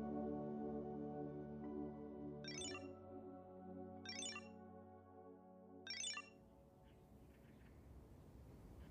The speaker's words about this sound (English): The silence of the meditation circle is broken by a sharp ringing sound coming from your backpack.